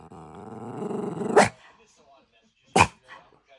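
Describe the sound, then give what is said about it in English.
A foster dog named Boston gives a short, low, rumbling growl that swells for over a second, cut off by a sharp burst; a second sharp snap follows after a brief pause. “That is like a little angry growl.”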